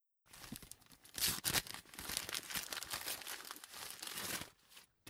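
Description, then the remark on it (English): Gift wrapping paper crinkles and tears as it is unwrapped, a dense run of rustling crackles with a few sharper rips, steady for several seconds before stopping. “I'm willing to spend an entire afternoon's worth of hours looking for the perfect paper to wrap your gifts in.”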